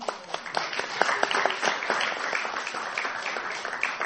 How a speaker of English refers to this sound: If you didn't go out on Sankirtan during December, can you give them all a round of applause, please?